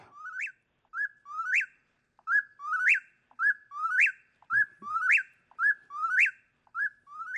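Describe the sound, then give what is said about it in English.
A whippoorwill sings its song over and over, a clear whistled phrase that rises sharply at the end, repeating steadily about once a second, loud with no other sounds. “The whippoorwill, I always loved that song”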